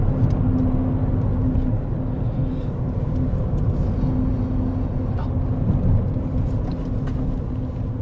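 A car arrives with a steady, heavy low rumble of engine and road noise, holding an even level throughout without any talking.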